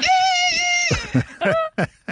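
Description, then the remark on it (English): A woman imitates a cockerel crowing: a loud, strained, high-pitched vocal note held for about a second, then breaking into a few short, choppy squawks. “Is this her cockerel or yes, making the this cockerel is noise?”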